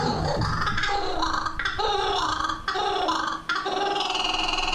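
A giant kingfisher calling loudly, a harsh, raucous cackling delivered in rapid repeated bursts with brief breaks between them, continuing throughout with no voices present.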